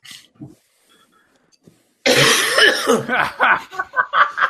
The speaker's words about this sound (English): can do his thing after he coughs.